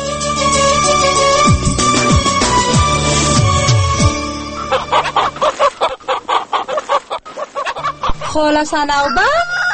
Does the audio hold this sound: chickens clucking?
yes